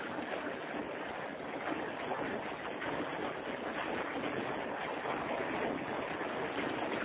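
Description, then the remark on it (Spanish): Heavy rain that has just started to fall pours down in a dense, steady hiss that stays loud and even throughout, heard over a phone call, with no voices and no break in the downpour. “Y se acaba de empezar a llover, pero muy, muy fuerte.”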